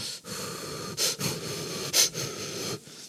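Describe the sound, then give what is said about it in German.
Breathy inhales and exhales, slightly wheezy, repeating every second or so with a soft hiss between breaths and no talking. “Ja, ich hoffe, man hört mich dann nicht mehr atmen.”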